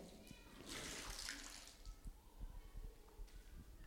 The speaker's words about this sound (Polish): w momencie, kiedy ja tą gąbkę włożę tutaj do wody, skorzystam z tego basenu, z jednej strony ona jest pochłonięta całkowicie wodą, wkładam ją pod wodę, ale ona nasiąka tą wodą. Jest tak pełna, że jak ją wyciągam, to ona wręcz ocieka tą wodą.